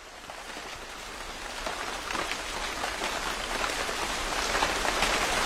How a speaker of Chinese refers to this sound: 喂，喂，快走啊！哎呀，下雨有什么可怕的？没有雨具不是更好吗？浑身湿透了，凉快。哎，我可不等你们喽。哎，好雨啊，好雨哦。